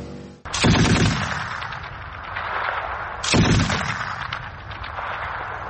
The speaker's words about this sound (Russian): Постріл!